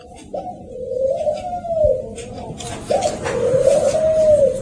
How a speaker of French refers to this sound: Ça, c'est les oiseaux de la paix, ça, c'est symbolique, hein. C'est le signe de paix.